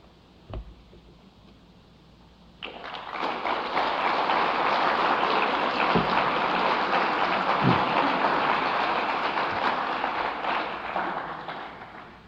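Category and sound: crowd, audience clapping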